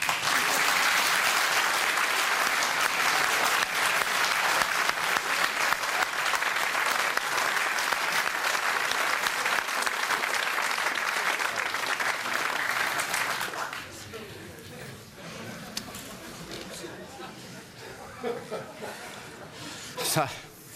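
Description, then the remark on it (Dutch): An audience gives warm applause for actor Bernd Waldman, the lead actor of the film Adolf: loud, steady clapping in a dense, continuous wave that lasts about thirteen seconds, then quickly subsides as someone begins speaking over scattered remaining claps. “Ik wou u daarom vragen een warm applaus te geven voor acteur Bernd Waldman.”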